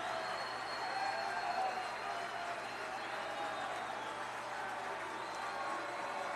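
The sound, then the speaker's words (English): A large baseball stadium crowd, on their feet with the Greenville Drive one out from the South Division championship, roars and cheers steadily, a dense wash of voices and applause that holds at a fairly even, loud level throughout, with no clear individual speech. “The crowd getting on their feet. They can sense the South Division Championship is at hand.”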